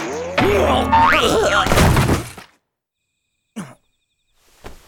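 A loud cartoonish blow as a flying wine bottle strikes someone on the head, with a wobbling, boinging ring and a crash that fade after about two seconds into silence, followed by a couple of brief soft sounds.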